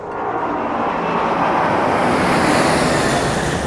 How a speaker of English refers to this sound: I'm sorry. It's just these planes. They're so loud I can't concentrate.